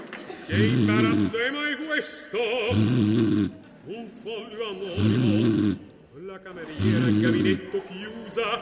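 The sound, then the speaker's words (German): Loud, exaggerated snoring: four long, rumbling snores in a steady rhythm, each followed by a raspy wheezing exhale, as if voiced by a performer, from someone who has fallen asleep in a theater. “Du bist eingeschlafen und hast geschnarcht.”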